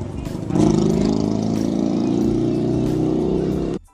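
A motorcycle engine roars loudly past, a steady low, buzzing drone that swells in after a quiet start and holds for about three seconds before cutting off abruptly.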